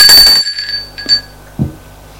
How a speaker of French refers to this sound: Sonne à l'appartement.